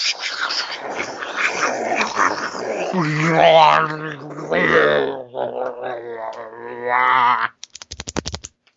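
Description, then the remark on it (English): A voice makes loud, drawn-out growling and snarling noises for several seconds, imitating an animal, then stops. A short burst of rapid, keyboard-like clicking follows. “Was there a termite in there too? Yeah, that was the growling.”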